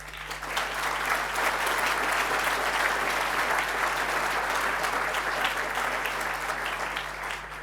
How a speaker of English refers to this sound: Give a warm applause to Acacia.